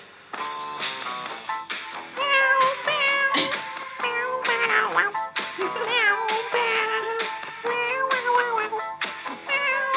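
Loud cat meows come one after another for the whole stretch, pitched up and down in a rhythmic, tune-like sequence with barely a pause and no talking.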